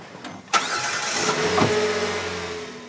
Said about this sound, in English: The van motors up the steep driveway. At the top, it turns right to make the short trip past cows and farm fields to Cagley's Chapel Baptist Church.